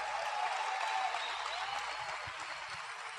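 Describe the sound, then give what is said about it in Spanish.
Sustained audience applause for a group of invited guests, a dense, steady wash of many hands clapping at an even loudness for the whole stretch, with no voices standing out. “Todo un fuerte aplauso para todos ellos.”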